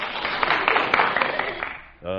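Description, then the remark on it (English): A scattered round of audience applause in response to a joke about the freedom of the press and American newspapers, steady dense clapping for about two seconds that fades before a man's voice starts speaking. “slightly radical applause there.”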